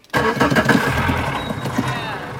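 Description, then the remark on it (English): The motor of an open-air boat at a dock on the New River in Belize sputters to life with an abrupt start as the boat is about to push off, then settles into a loud, steady, rumbling idle. “To get to the Eco Lodge, we climb into an open-air boat on a stretch of the New River. About to push off here from the dock.”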